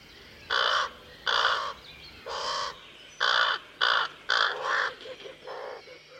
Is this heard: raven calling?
yes